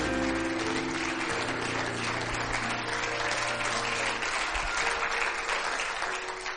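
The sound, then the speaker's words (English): A crowd claps steadily and loudly for several seconds as a hand clap for the Lord, the dense applause filling the room over a sustained low musical tone that fades partway through. “Give the Lord a hand clap this evening.”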